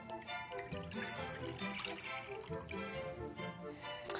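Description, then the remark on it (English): Soy milk pours steadily into a bowl while gravy is being made, a continuous splashing trickle lasting a few seconds, while voices murmur faintly in the background. “We've got some soy milk here. We'll pour that in there.”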